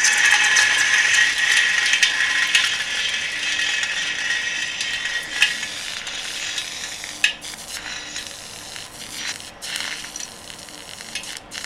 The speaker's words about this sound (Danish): Og på et eller andet tidspunkt, så revner det, når stresset bliver stort nok. Og det er det, der giver alle de her knitrelyde, som vi også kunne høre, det vi hældte ned i vandet.